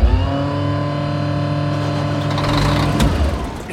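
A loud engine drones with a steady, buzzing hum, low pulsing chugs beneath it, then sputters and shifts abruptly near the end, like a plane engine straining to start. No voices.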